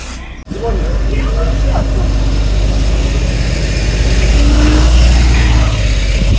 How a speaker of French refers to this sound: Et voilà, le bus s'en va, c'est parti pour une journée de classe.